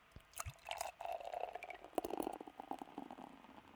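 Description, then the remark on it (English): Beer glugging from a bottle into a glass, a steady run of bubbly gurgles and splashes with a faint fizz, fairly quiet, with no one speaking. “It is great for beer pouring.”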